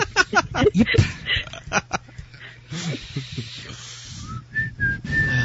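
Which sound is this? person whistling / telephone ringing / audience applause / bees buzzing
person whistling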